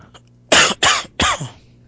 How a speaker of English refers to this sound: Are you still dying? Yeah, slow death, still coughing away. Gotta work on that.